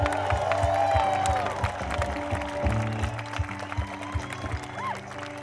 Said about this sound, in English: You guys were so generous in thanking the house band. Now, can you please do an even bigger applause for all of the volunteers who make this possible?